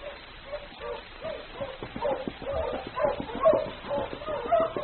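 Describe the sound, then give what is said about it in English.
A team of husky sled dogs barks and yips excitedly in a rapid, overlapping chorus, steady, with a slightly muffled, old-recording quality and no one speaking. “Mush, you huskies! Mush!”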